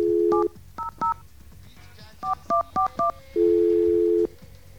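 Touch-tone phone keys beep in quick, uneven bursts, about seven tones in two clusters, as a number for the regional phone company is dialed, followed by a single longer, steady buzzing ring tone. No one speaks.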